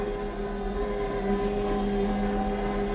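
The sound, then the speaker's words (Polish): A bread machine kneads dough a second time, during step five of its seven-step program, with a steady, continuous motor drone and a low hum beneath a faint tonal whine, holding at an even level throughout without any voices. “Słyszymy, jak urządzenie sobie ciasto wyrabia.”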